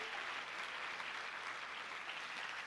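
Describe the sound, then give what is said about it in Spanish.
A crowd applauds steadily, a dense, even wash of many hands clapping that holds at a constant moderate level for about three seconds, with no voices over it. “Y si hay alguien que puede aplaudir a Dios por ese desierto, ay.”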